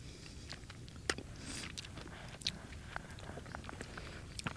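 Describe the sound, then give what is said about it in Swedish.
Wet chewing and smacking of small, bright orange sea buckthorn berries, with irregular soft crunches and clicks over a low rustling background, no talking. “Vi smaskar på dem.”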